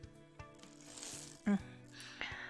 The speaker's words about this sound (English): Oh fuck, I definitely just heard that zipper.